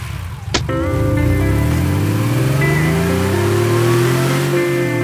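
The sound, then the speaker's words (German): A sharp thud like a car door shutting, then Mr. Andrews' small four-door sports car engine starts revving, its pitch climbing steadily as it pulls away, loud, with no voices. “Mr. Andrews fuhr einen kleinen viertürigen Sportwagen.”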